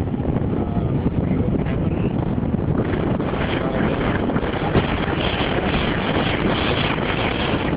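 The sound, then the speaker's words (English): Loud, steady wind buffeting a microphone, a dense low-frequency roar and rumble that never lets up, with gusty fluttering throughout and no clear voices. “I can't hear me because of the wind out there, so we'll pull it in here behind the dirty window glass.”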